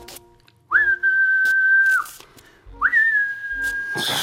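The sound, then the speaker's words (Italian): Someone whistles a warning signal: two long, steady, piercing notes, each held for over a second with a brief rising start, separated by a short pause; loud, with no talking. “Fischia! Fischia!”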